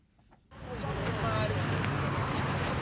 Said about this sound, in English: There is a little less traffic in Harare's business district, but otherwise, it looks like business as usual.